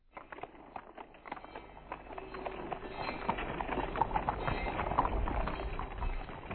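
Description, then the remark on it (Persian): Caravan animals' hooves clop in a steady, busy rhythm while a few faint bells ring among the steps, the procession growing slightly louder as it draws nearer, with no voices. “صدای زنگ و قدم های کاروان”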